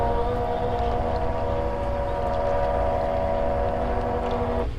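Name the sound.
small motorboat engine running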